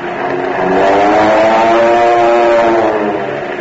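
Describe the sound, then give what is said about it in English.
Powerful Army Air Force airplane engines roar loudly and steadily, a thick droning growl with rising and falling tones that swells slightly and holds for several seconds, with no voices. “Today, your Army Air Force has planes that sound like, well, listen.”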